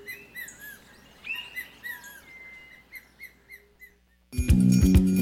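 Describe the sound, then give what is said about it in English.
An ornate hawk-eagle calls in a run of high, thin whistled notes and short chirps, rising and falling in quick bursts, before loud music abruptly cuts in near the end. “Both parents take turns incubating them and raising the next generation of fashionable raptors.”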